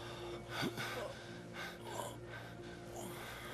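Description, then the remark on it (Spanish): A person gasps sharply for air, then takes a few ragged, heavy breaths, breathing again over a steady low hum. “Ya está respirando.”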